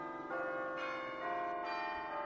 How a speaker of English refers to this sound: I was startled by the church bells. I didn't realize that Christmas is coming again. But this morning, as the sun rose, I saw the bells and I heard the bells.